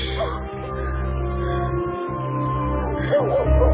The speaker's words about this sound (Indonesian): Dan suara anjing tadi muncul lagi.